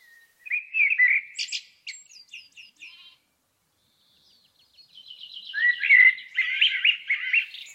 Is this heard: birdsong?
yes